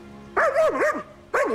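A dog barks loudly, one drawn-out, wavering bark followed after a short pause by a second bark that starts sharply. No one speaks.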